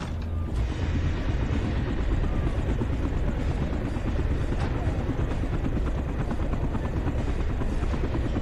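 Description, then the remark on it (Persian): A police air unit helicopter, Air Unit 3, flies over the Zakriuson area, droning steadily throughout, its dense low rotor chop pulsing rapidly with a mechanical, ratcheting texture, loud and constant with no speech. “واحد هوایی 3 بالای منطقه زاکریوسون هستم.”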